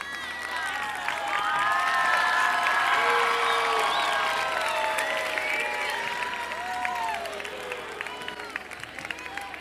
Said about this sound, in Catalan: Aplaudiu.